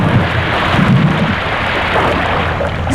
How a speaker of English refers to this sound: Splash! It landed in the sea.